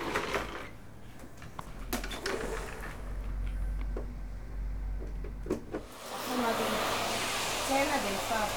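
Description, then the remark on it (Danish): A vacuum cleaner runs steadily with a low droning hum as a woman vacuums as part of her daily work tasks. Partway through, its pitch and whine shift as it moves, with a few brief clunks over the motor noise. “I løbet af dagen skal hun blandt andet støvsuge, vande planter og sætte service på plads.”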